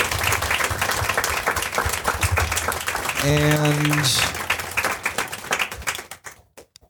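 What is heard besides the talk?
audience applause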